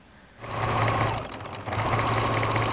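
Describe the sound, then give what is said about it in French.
A sewing machine starts up and runs in a fast, steady whir of rapid needle strokes, pauses briefly, then resumes at the same quick, even pace, stitching salvaged voile curtains together into large colourful patchwork flags for a festival. No voices. “Et pour ça, on a été récupérer plein de rideaux en voilage et je les assemble pour faire des grands patchworks colorés qui vont voler en haut des perches à neige.”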